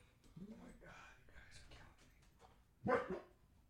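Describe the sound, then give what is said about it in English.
Dogs, one of them brindle, bark a few times: softer yips early on, then one sharp, louder bark near the end, with faint muffled voices in the background. “Dogs, I love you guys, but you're blowing it.”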